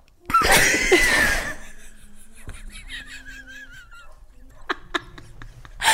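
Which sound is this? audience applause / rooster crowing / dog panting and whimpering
dog panting and whimpering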